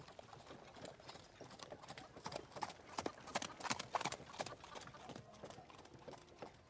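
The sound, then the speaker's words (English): Horses' hooves clip-clop in a steady, repeated rhythm on a hard surface, the sharp hoofbeats growing louder as the horses are brought closer and then easing slightly toward the end. “I bring the horses closer.”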